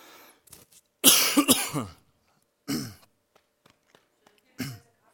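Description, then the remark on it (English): A man coughs and clears his throat, a harsh rough burst followed by two shorter throaty hacks with quiet pauses between them. “No, a cough drop won't do it.”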